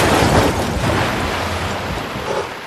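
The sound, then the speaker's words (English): A loud racing video game car crash effect, heard when the player crashes on purpose; the car stops and then restarts. A dense, noisy roar with a heavy low rumble that holds steady for a few seconds and fades slightly toward the end, with no talking. “Now, I'm gonna crash on purpose.”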